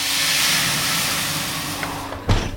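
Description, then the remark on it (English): Water is added to a hot oven to make a crisp, dry bread crust and hisses into steam, a loud, steady, rushing hiss that eases slightly over two seconds before a short, low thud cuts in at the end. “What I also wasn't expecting was the secret to that crisp, dry crust. It's adding water to the hot oven.”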